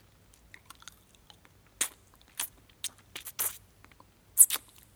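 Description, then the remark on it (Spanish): Wet, sucking mouth sounds on the tip of a pencil, sucked in place of a cigarette: a handful of short, crisp smacks and slurps at irregular intervals, with faint ticks between them and no talking. “Chupo la punta del lápiz, pero no saca humo.”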